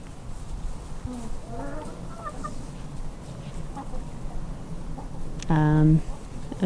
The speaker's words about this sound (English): I can hear hens probably stealing the pigs, nicking the pigs' food.